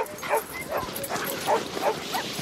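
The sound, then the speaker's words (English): Several sled huskies of a dog sledding team bark and yip in quick, overlapping bursts, an excited chorus of dogs over a steady background hiss, moderately loud. “But the one thing you can't measure in any husky is their passion and their desire.”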